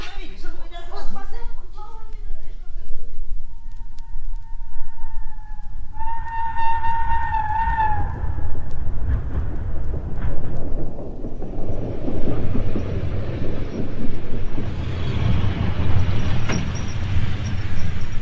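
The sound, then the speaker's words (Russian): An express passenger train pulls into a station: a sustained horn sounds for several seconds, then a loud, steady rumble of rolling carriages builds and fills the scene, with brief voices at the very start. “В тот же день в общую вокзальную толчею, опираясь на палочку, вышел из вагона скорого поезда седой человек в коричневом пальто.”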